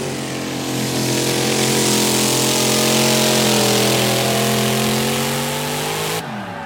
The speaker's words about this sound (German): Wenn mehrere Fahrer oder Fahrerinnen ins Ziel kommen, gibt es ein Stechen und sie treten nochmal gegeneinander an. Aber dann mit noch mehr Gewicht auf dem Bremswagen. Zieh, Traktor, zieh!